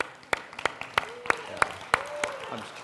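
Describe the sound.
A group claps in steady unison, about eight sharp, evenly spaced claps at a brisk rhythm, with faint voices and murmurs underneath.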